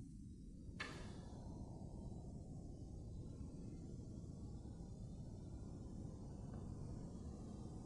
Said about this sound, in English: That's going to be the heating fan.